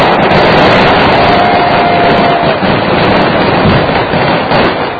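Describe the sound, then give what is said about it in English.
Loud fireworks explode in a dense, sustained roar of crackling blasts that barely lets up for the full five seconds, overwhelming, with no voices. “Why couldn't our firecrackers have done that? That's what I wanted. I wanted that kind of a bang.”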